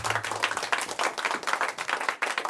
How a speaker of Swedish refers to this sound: Ja, det var en trevlig applåd. Det var ingen fotbollsapplåd kanske direkt, men det var en liten, liten publik som fick sitta och applådera under en ganska lång period där för Atalanta.